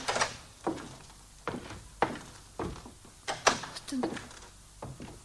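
A door being opened, marked by a series of sharp wooden thuds and knocks spaced irregularly over a few seconds, with faint clattering between them.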